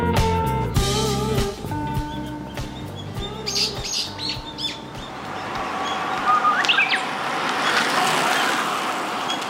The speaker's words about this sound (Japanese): 初ウグイスですね。 そうですね、まだねほよほよ言ってますけどね、もうわんさか泣いてるでしょう、これがね。これは淀川沿いですね。